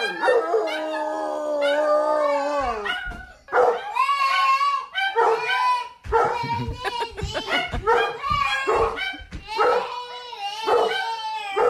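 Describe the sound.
Several dogs howl in long, wavering tones, breaking into short yips and barks, mixed with a little girl's high singing voice. Fairly loud, with the howls rising and falling throughout.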